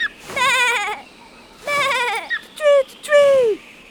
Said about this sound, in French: Les moutons en bas! Mais... Vous n'entendez pas? Mais... Ma parole, c'est vrai, ces moutons ne pensent qu'à brouter.